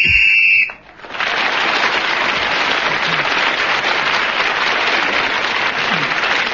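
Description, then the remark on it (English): A shrill whistle on a panel game blows one steady blast for under a second, ending Clement Freud's turn at speaking, then stops and gives way to loud, sustained applause that continues to the end. “As Clement Freud was speaking again, when the whistle went, he gains another point, and he now has a lead of one over all the others.”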